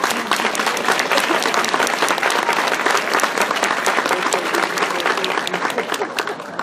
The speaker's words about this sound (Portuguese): Comité de aplausos. Comité de aplausos. Un aplauso. Un aplauso a vocês.